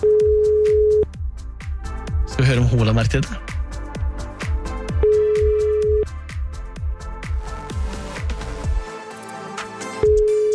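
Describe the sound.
A steady telephone ringback tone sounds in long evenly spaced beeps, each about a second, as a radio host on NRK Radio's MP3-klubben calls a listener a second time. It repeats over a busy bed of rhythmic music, with a man's voice speaking briefly between rings.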